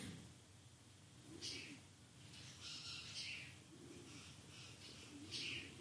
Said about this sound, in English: It's a solstice. It's bright enough outside that the woodpeckers are still squawking.